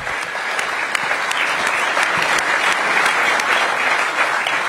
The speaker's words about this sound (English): Give the commissioner a big round of applause.